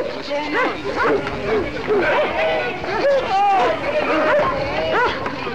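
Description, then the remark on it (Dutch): A police dog barks and yelps repeatedly in short bursts while attacking a fleeing young man during an arrest, over a continuous background of crowd hubbub and raised voices. “Werd aangevallen door een hond, in ieder geval slingerde er een tas in het rond en die had die hond ook aan zijn bek hangen.”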